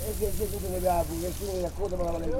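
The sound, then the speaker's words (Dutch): Steady hiss of fresh water running from a free public outdoor shower in Boca Sami that runs day and night, continuous, with a man's voice talking over it throughout. “Maar in Boca Sami staat dag en nacht een douche waar iedereen gewoon gebruik van kan maken.”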